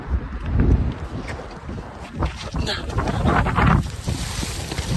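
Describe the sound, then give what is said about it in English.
A boat being chased by killer whales pushes through choppy water as strong wind buffets the microphone, with steady rushing spray and splashing throughout, loud, with no clear pauses. “These guys saw that their boat was being chased by killer whales.”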